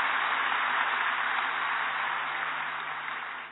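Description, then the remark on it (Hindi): A steady wash of audience applause welcoming a guest on the stage, dense crackling claps from many hands holding at an even level for a few seconds before easing slightly at the end, with no voices over it. “तो हम आपका आज की इस मंच पर ताली बजाकर हार्दिक अभिनंदन करते हैं।”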